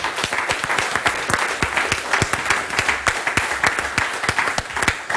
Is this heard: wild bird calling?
no